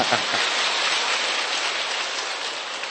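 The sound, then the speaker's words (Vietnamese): Steady, dense applause from an audience at a Christian talk, a continuous wash of many hands clapping at an even loudness for the full three seconds, with no voices heard over it. “Cái tên, vỗ tay đi.”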